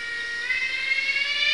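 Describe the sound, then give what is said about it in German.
A cicada sings in a steady, shrill electric buzz, high-pitched and unbroken, holding loud and even from start to finish with a slight swell partway through. “Zikaden können übrigens sehr laut singen, teilweise so laut, wie eine Lokomotive pfeift.”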